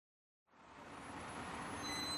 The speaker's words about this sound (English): Day 1. I'm at Tietê bus station in Sao Paulo in Brazil to catch the bus for the long trip to Lima, Peru.